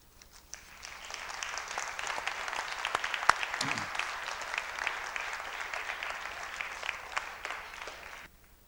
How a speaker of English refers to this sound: That was not really a short applause, but he deserved a bit longer one. I fully agree with the audience.